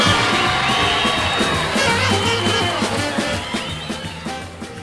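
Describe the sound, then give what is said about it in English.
A large live concert crowd roars with sustained cheering, whistles and scattered shouts, a dense wall of applause welcoming a blues singer, staying loud throughout and easing slightly toward the end. “round of applause to welcome the world's greatest blues singer, the king of the blues,”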